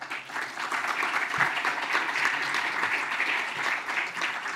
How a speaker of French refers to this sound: Merci de l'applaudir.